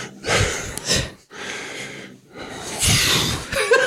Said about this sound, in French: C'est désagréable d'avoir, quand vous parlez, un type qui se met à ronfler immédiatement.